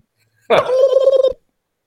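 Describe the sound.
A person imitates a turkey gobble: one loud, warbling burst under a second long, with a rapid rattling pulse, then silence.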